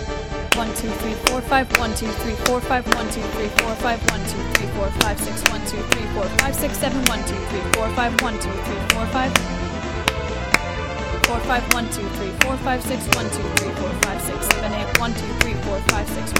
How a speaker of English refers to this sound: The coolest thing about this piece is how the divisions add up into different length beats, so I'm going to clap the larger beats and count the divisions aloud.